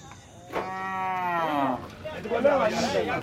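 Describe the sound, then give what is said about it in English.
At a cattle market, a cow lets out a long, loud moo that slides downward in pitch, followed by more overlapping bellows from other cattle amid a busy, noisy outdoor crowd. “In cattle markets like this, we've met people who said they traded livestock with the jihadist groups, and some here have even gone to fight with them.”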